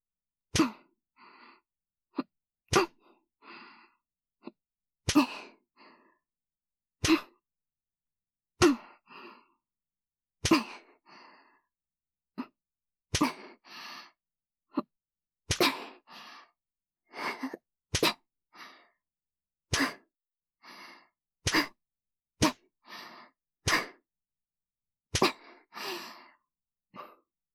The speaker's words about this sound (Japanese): 眉間にしわ寄せて、我慢してる？はぁはぁ息遣い、荒くなってるね。